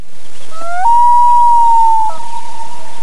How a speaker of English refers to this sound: That's a common loon. Nailed it. We deal with those so often, you'd think we'd know them.